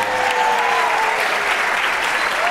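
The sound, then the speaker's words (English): Steady applause from a game show audience for Bill Curtis, a dense continuous clatter of many hands clapping at full loudness throughout, with a faint whistle-like tone gliding briefly above it. “I think a round of applause for Bill.”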